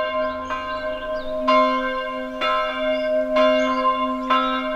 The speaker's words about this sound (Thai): แต่เจ้ากระต่ายเจ้าหมีและจิ้งหรีดกลับมีความสุขอยู่กับการฟังเสียงนาฬิกาตี12ครั้งและเต้นรำกันอย่างเพลิดเพลิน